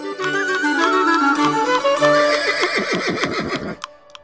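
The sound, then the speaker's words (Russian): A horse neighs loudly, one long whinny that starts high and strained, then quavers and shakes as it falls away, with no other sounds around it. “«Где же ты взяла такого коня?»”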